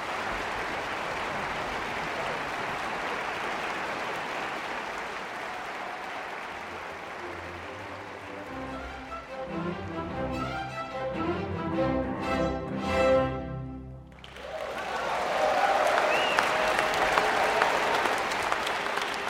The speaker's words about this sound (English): Then the strings. And then the brief moment of quiet, anticipation, before the applause as conductor Daniel Hege takes the podium.